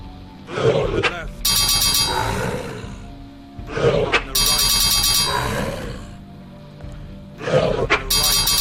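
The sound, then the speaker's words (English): Video game battle sounds as a battle against an enemy wolf begins: a growling snarl followed by bright, buzzing electronic tones, repeating three times at a steady interval, loud. “Wolf. Here's a wolf. The yep. battle begins. There's an enemy.”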